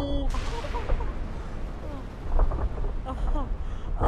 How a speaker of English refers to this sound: Oh my god! Is that building collapsing?